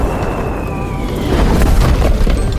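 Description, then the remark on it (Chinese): A loud, rumbling explosion of a huge meteorite striking Earth: a faint descending whistle over a deep roar that swells into a sustained, booming blast, with no voices. “有一天，天空中突然出现一颗超级大的陨石，掉到地球上，引起了大爆炸。”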